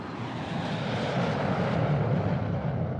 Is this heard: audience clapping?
no